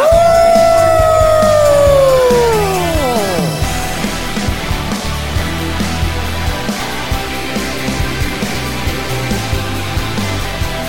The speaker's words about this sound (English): Howl and again a howl.